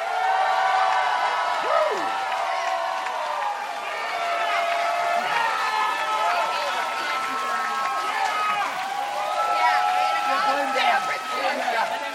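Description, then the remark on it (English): An audience cheers and applauds to pick a contest winner, starting with Matt Lieb's entry, for about twelve seconds, many overlapping voices whooping and shouting at a steady loud level over a bed of clapping. “So pick a winner with your applause, starting with Matt Lieb, Elon Musk, TED Talk.”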